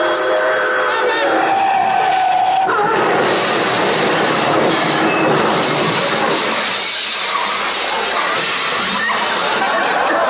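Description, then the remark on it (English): A train roars toward a railroad crossing, loud, with a steady horn-like tone early on before a dense, continuous rumble takes over; faint voices murmur beneath it. “There's a train. Yeah. And we're both heading for the same crossing.”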